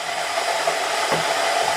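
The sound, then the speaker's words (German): Sesame seeds toast in a hot, already steaming pan with a steady, dense sizzling hiss that holds at an even loudness throughout, with no voices. “Aber es dampft schon. Der Sesam wird verprügelt.”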